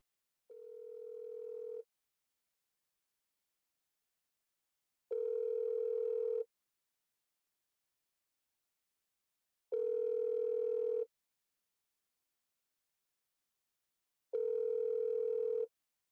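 A telephone ringback tone sounds while a call is being placed, four steady, even bursts of about a second each, spaced by several seconds of silence, clear with no voices.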